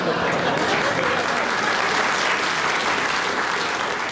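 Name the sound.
studio audience clapping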